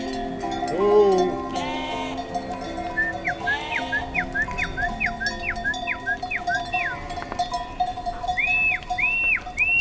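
Several ewes bleat in overlapping, wavering calls outdoors on a plateau above a river, as a shepherd goes up with his horse and donkey, while a quick run of short high chirps repeats in the background and a low ambient rumble continues throughout.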